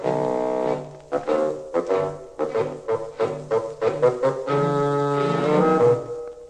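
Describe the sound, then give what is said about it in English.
A low, reedy old bassoon, representing Grandpapa, plays a gruff melody: a held opening note, then a string of short, detached, plodding notes, ending in longer sustained tones. No voices. “Grandpapa is an old bassoon.”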